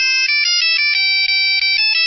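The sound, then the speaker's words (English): A cell phone ringtone plays loudly, a bright electronic melody of quick repeating notes that continues steadily with no voices over it. “An ABC News 2020 poll says most of us are bugged by rudeness, and at the top of the list, cell phones and the people who use them.”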